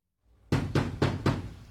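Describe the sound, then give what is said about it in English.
Four heavy, evenly spaced bangs on a front door, loud, each thud booming with a deep low resonance after a brief quiet start. “A banging at the front door.”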